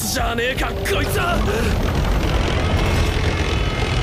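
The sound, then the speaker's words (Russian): An American Apache helicopter roars steadily and loudly, its deep rotor rumble filling the whole stretch, with a brief voice-like sound over it at the start. “У него и вертолеты есть. Кажется, американский Апач.”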